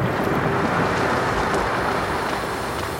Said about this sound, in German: Als Eck das inzwischen vertraute Geräusch von Tauchern an der Wasseroberfläche hört, schaltet er die Taschenlampe ein und richtet sie auf das trübe Wasser, aus dem zwei unbekannte Gesichter auftauchen.